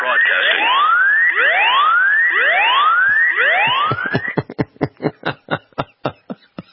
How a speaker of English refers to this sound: Alarm activated. All guardians alerted. Alarm activated. All guardians alerted. Location, video, sound.